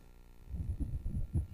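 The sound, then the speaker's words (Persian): Low, muffled human heartbeat thumps repeat in a steady rhythm, each beat a soft doubled pulse, fairly quiet with no voices. “با هر ضربان قلب خون به سراسر بدن فرستاده می شود و اکسیژن و مواد غذایی را به همه سلول های بدن می رساند.”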